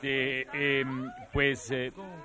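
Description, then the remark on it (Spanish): A cat meows several times in quick succession, fairly loud, with some calls sliding up or down in pitch. No one is talking. “Sinceramente, yo oí un gato.”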